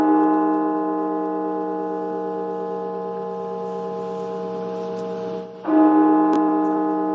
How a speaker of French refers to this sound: Vous avez reconnu? Oui, ce sont les cloches de la cathédrale nationale ici à Washington. Elles ont résonné pour rendre hommage aux plus de 300 000 victimes américaines de la pandémie de COVID-19.